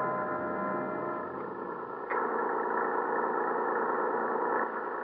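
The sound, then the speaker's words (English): Engines of a column of heavy lorries on a mountain road drone in a steady, rumbling roar with a low harmonic hum, the pitch and loudness stepping up slightly partway through. No voices. “I can hear their lorries along the mountain road.”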